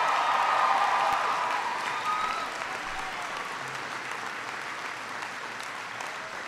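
A large crowd applauds steadily, a dense wash of clapping with a few faint cheers, loudest at the start and easing slightly but sustained throughout.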